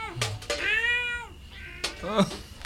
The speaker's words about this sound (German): Oh. Nur eine Katze.